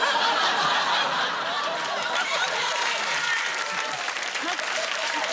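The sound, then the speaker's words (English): A live audience, including married men, bursts into sustained, dense clapping for several seconds, loud and steady throughout, with scattered laughter and chuckles mixed into the applause. “I can see married men in the audience clapping that.”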